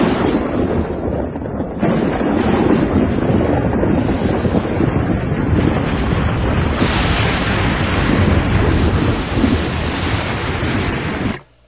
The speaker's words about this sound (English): Unfortunately, His Excellency could not complete his beautiful speech. A monstrous storm broke loose, which forced us to flee and to seek the negotiation ship, a type of primitive submarine, which we finally reached drenched to the skin.